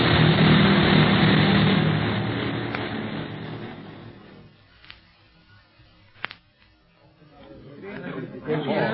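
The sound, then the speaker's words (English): An out-of-control airplane in a nosedive falls from a good height and crash-lands outside the city walls of Kano: a loud, dense engine roar fades away, then two sharp impacts crack through the quieter stretch before a rough rushing noise swells again. “Gonna land outside the city walls.”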